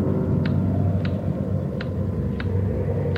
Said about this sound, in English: Real windy. Maybe I ought to close the windows.